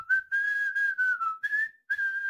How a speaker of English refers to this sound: I'm thinking, though, from now on, I might do the intros. You do the intros. You're the producer. By whistling.